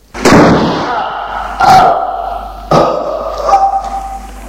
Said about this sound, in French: un grand bruit, comme si quelque chose de lourd venait de tomber avec fracas.